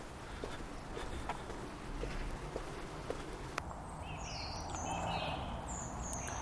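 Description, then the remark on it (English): Birdsong from trees along a road, with scattered high chirps and whistles in the second half, fairly faint above a steady outdoor rumble and intermittent clicking steps. “There's lots of trees down my road. Which is completely delightful because there's actually lots of bird song.”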